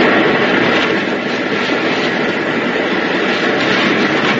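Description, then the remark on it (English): A steady, loud airplane engine drone fills the air continuously, a broad rumbling roar overhead, with no voices and no breaks in the sound. “You think you're going to be rescued by that plane and leave me behind.”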